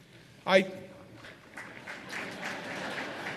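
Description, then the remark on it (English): A brief loud vocal burst, then scattered audience applause building into a steady patter of claps at moderate volume, with no clear talk over it, as the audience applauds a mention of the commute from Long Island to New York City. “Why would you applaud for one of the worst commutes in the nation?”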